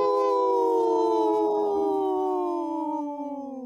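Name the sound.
people imitating wolf howl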